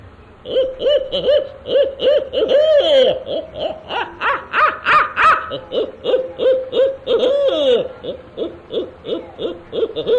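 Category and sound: bird, barn owl call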